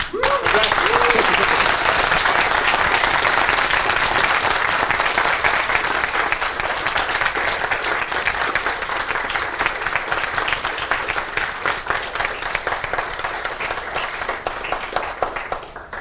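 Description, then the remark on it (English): Sustained, loud applause from a large audience at the end of a presentation: dense, crackling clapping at a steady level for about sixteen seconds, tapering slightly at the end with no speech over it. “We do indeed have 5 minutes, slightly less because of this huge applause, and we have the first question.”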